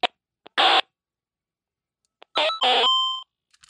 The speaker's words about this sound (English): Let's see what the alarm does, or if it even does. It's now 12:01 a.m. Yeah, thought that might happen. Alarm.